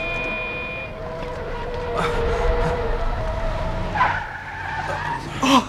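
A car's tires screech loudly and continuously for several seconds over a low engine rumble as it heads toward a street, the shrill squeal wavering and rising in bursts as the vehicle skids.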